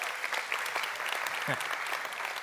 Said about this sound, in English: She deserves a medal. You don't have to clap so hard for that part.